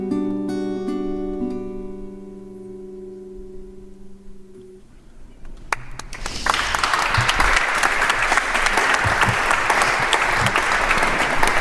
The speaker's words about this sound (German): Ich habe geklatscht, oder? Geklatscht darf auch werden. Das ist auch mal so eine Frage in der Kirche oder wo auch immer.